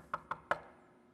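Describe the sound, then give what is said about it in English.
Three firm knocks by the police on a house door in an even, deliberate rhythm, each one a short sharp thud with a slight ring, clear with no talking. “And he opens the door, and it's the police.”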